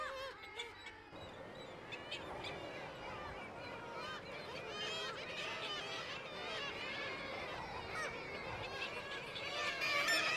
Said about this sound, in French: jusqu'à voir parfois entendre, quoi, non pas voir, mais entendre un peu de vacarme des oiseaux au pied des glaciers. Quand il y a des nuées d'oiseaux, les mouettes tridactyles ou les sternes arctiques qui braillent, là on est dans le sonore plus.